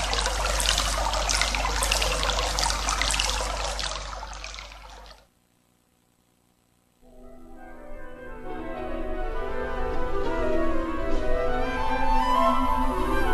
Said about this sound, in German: Ich bin nur ein normaler, kleiner Bach, der wie alle Flüsse und Bäche einmal im Meer mündet.